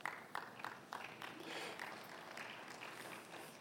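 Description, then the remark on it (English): A church audience claps together, starting with a few sharp, distinct claps that quickly blend into a steady, dense wash of applause lasting a few seconds at a moderate level. “I love your claps.”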